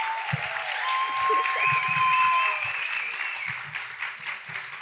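An audience breaks into sustained applause, a dense steady wash of clapping that holds strong for several seconds, with a few faint whistles riding above it.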